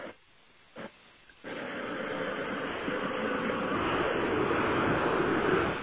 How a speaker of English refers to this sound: Sorry, helicopter.